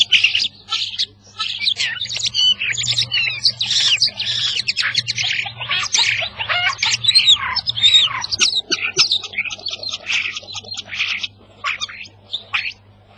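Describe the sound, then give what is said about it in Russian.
A starling sings a dense, continuous stream of varied chirps, whistles and squawky phrases, mimicking unfamiliar calls apparently of native birds of Africa or Asia, fairly loud over a low steady hum. “Они, видимо, принадлежат туземным птицам африканского континента или стран Азии, которых мы сами не слыхали, только вот с помощью скворца познакомиться удалось.”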